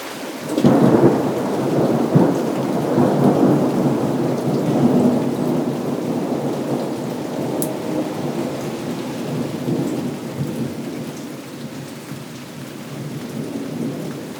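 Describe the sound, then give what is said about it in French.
Steady rain falls at night on dusty paving stones, pattering in a dense, continuous hiss of drops, with a deep rumble of thunder rolling underneath. The sound stays fairly even throughout, and no one speaks. “Mais ce n'est qu'à la nuit continue que les gouttes espérées et les trilles ressuscitées des oiseaux cliquettent enfin sur le dos poussiéreux des pavés.”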